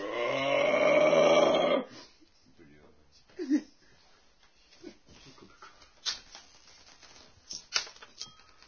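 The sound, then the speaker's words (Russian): A loud, deep engine roar bursts out for about two seconds, then cuts off, leaving quiet scattered clicks and faint rustling sounds. “Ну, слышишь, парадный низкий рев.”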